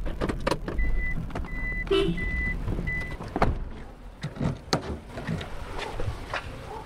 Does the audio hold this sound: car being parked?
yes